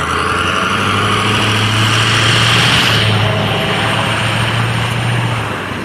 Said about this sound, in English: Pickup truck went zipping by the end of the intersection, stopped on the other side, backed up, and then went back through the intersection again.